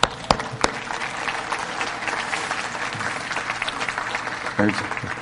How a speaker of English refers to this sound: Welcome. I will clap.